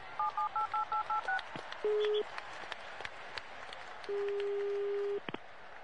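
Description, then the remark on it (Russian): A quick run of about seven phone keypad beeps, pressed by accident when the caller was jostled, then a brief low tone and later a longer steady line tone as the call drops, all over a busy, noisy crowd of people shouting. “Связь оборвалась, меня это толкнул, что ли, кто-то кнопку нажал случайно.”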